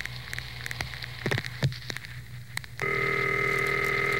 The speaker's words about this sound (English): Well, it's time to make another AOR at random phone call.